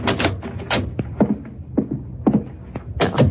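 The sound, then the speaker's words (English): A heavy wooden cellar door at the back of a house is hauled open with a series of scraping clunks and knocks, irregular thuds of wood and metal over a low rumbling background. “Open it, Bucky. Right.”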